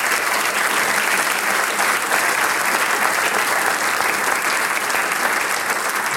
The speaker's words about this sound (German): Geben wir einmal einen kräftigen Applaus.